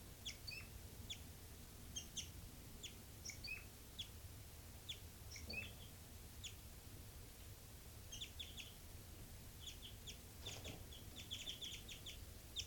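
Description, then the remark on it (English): Flight calls of two birds, identified as 5-9 and 3-3, calling and responding: short, high, thin chirps repeated in irregular clusters throughout, sometimes overlapping, over a steady low rumble with no one talking. “5-9 flight calls.”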